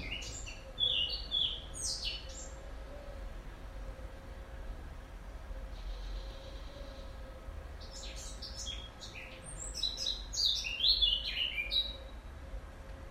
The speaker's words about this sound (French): Peut-être un rouge-gorge. Ouais, un rouge-gorge chantait. C'est lui.